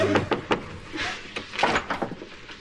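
Several sharp raps on a door arrive in two loose, irregular bursts, fairly close and moderately loud, with no voices in between.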